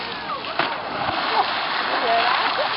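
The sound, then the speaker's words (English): Water splashes and churns as a trained animal, given a hand signal, leaps out in the center and lands, followed by a continuous rushing slosh as it swims, with faint voices mixed in behind the noise. “He threw a jump out in the center to swim.”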